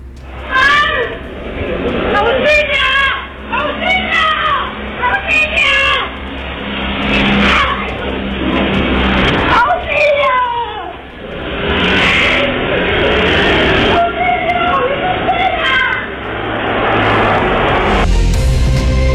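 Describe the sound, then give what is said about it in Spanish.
A woman, struck by thieves and left on the roadway, screams for help in repeated high, strained bursts, captured by surveillance cameras, over a steady rumble of passing traffic, her cries rising and falling throughout. “Los gritos de auxilio de la mujer ustedes los van a escuchar a continuación porque fueron captados por las cámaras de vigilancia y el video también lo van a poder ver a través de Bio Bio TV.”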